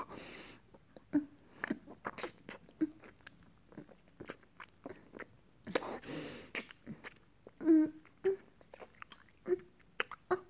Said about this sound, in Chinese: 好久没有这样尽情的和男人接吻过了呢。再来。